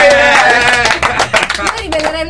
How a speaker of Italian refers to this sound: Io proporrei due tipi di applausi: il primo per Haji Mohamed Swart, vai applauso, sì.